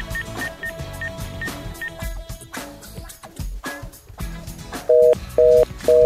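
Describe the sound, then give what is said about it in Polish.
Background music plays, then a telephone busy signal cuts in near the end as a caller's line to a radio call-in is disconnected: three loud, steady beeps in an even on-off rhythm, prominent over the music. “Niestety zostało przerwane połączenie.”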